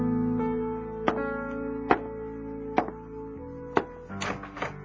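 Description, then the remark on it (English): Several sharp, hollow knocks on a door, spaced unevenly about a second apart, over a steady, sustained musical drone: a pastor rapping at the door at about 7 o'clock in the evening. “That evening, at about 7 o'clock, the pastor rapped at our door.”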